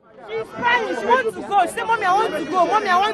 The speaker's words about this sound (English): It's bedlam at New Road bus station here in the heart of Kano. Scores of children, women and men are milling around with huge bundles and baggage in all shapes and sizes, waiting to be loaded onto half a dozen buses.